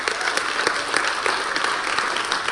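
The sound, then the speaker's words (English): A crowd claps steadily, dense overlapping handclaps filling the space at moderate loudness, with no voices standing out above the applause. “Yeah, you can applaud that.”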